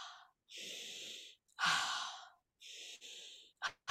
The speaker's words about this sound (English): And what you hear me doing is called circular breathing. It's not a big breath in and then hold and then exhale. It's going around and around and around.